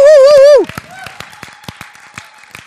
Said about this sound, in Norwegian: Ja, gi han skikkelig applaus.